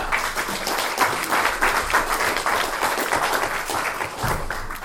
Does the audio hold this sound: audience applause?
yes